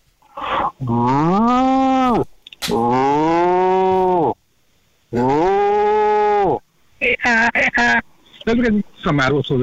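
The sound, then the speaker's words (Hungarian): A man imitates a cow on stage in an animal-sound imitation contest, letting out three long, loud, drawn-out moos one after another, followed by a few shorter, choppy vocal bursts near the end. “Tehén, a legközelyesebb állathang. És úgy mond, hogy bú. Vagy mú.”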